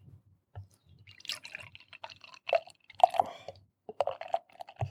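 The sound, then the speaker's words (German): Thick Triple Dry Hopped Quadruple IPA beer of 11.3% being poured, with irregular glugs, drips and wet splashes as it fills a glass, fairly quiet and with no one talking. “Willst du mal einschenken?”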